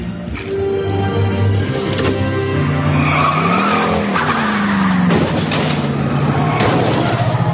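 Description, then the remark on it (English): A car engine roars loudly, revving with rising and falling pitch as the vehicle pulls away, accompanied by screeching tires, with no talking. “Start her up. We'll start this car up.”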